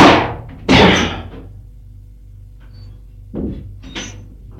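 A bedroom door is forced open with heavy shoulder blows: two loud thuds with a crashing burst, a low rumbling pause, then two more thumps and rattling wood, with no voices.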